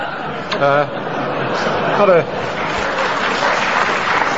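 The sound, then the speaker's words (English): A large outdoor crowd at a cricket match on a bank holiday morning applauds steadily throughout, with a couple of brief raised voices calling out over the clapping near the start. “There's a good crowd here this morning, a bank holiday, of course, the Ides of March.”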